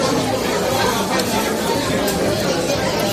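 Lively crowd chatter fills the scene, many overlapping voices blending into a steady, loud hubbub with no words standing out, friends at a chiringuito beach bar in Spain on the 15 August holiday, drinking sangria and beer and snacking.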